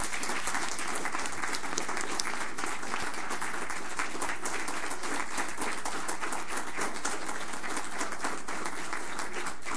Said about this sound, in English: And I want to move to adjourn in their honor. And I think one more round of applause would be appropriate.